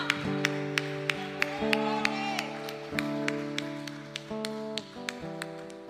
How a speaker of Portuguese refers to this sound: Faz festa, dá sua melhor salva de palmas, dê um brado de vitória, porque Ele é poderoso, porque Ele é bom.